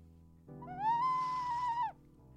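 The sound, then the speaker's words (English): An ocarina, a Spanish clay whistle, sounds one breathy, sustained note that slides up, holds steady for over a second, then drops off at the end, over a faint low hum. “So I'm going to play my ocarina, my Spanish clay whistle, okay?”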